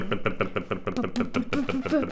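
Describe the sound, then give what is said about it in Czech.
A voice imitates a chugging tractor engine with rapid, regular lip-buzzing pulses as a lip-vibration voice exercise, fairly loud, the putt-putt rhythm steady throughout with a rising hum near the end. “Traktor.”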